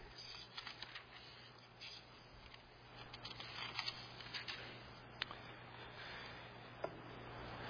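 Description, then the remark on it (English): Soft, continuous rustling of many hymnal pages being turned at once to page 886, with a few sharper flips and taps standing out against a faint low hum. “And then turn back to page 886.”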